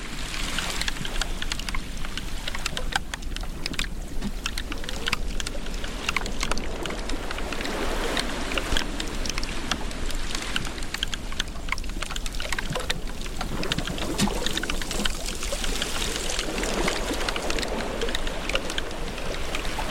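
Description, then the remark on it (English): Glacial meltwater flows in a steady, rushing stream, peppered with dense crackling drips and splashes that hold an even loudness throughout, with no voices. “And hear the sound of glacial melt.”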